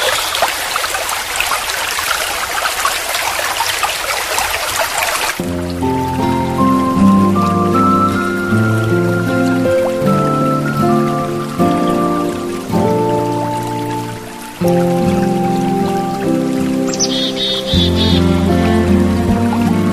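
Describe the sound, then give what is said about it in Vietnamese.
Gentle sea waves wash steadily against a sandy shore for the first few seconds, a soft continuous hiss of water, before calm melodic music takes over and fills the rest. “dưới chân tôi, những con sóng vẫn nhẹ nhàng vỗ về bờ cát rồi lại trở về khơi xa.”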